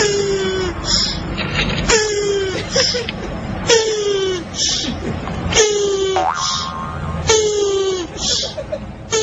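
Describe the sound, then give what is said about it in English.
Turtles moaning while mating: a loud, repeated series of drawn-out, groaning moans, each sliding downward in pitch, roughly every two seconds over a steady rough background. “There's the turtles.”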